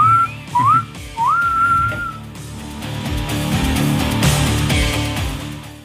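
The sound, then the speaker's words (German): A few short, sliding whistle notes, blown to stop someone talking, sound clear and rise in pitch, before a loud, dense wash of live music from a band's first live performance at a rock festival swells up and carries on to the end. “Pfeif jetzt mal ab, sonst hört er gar nicht mehr auf zu quatschen.”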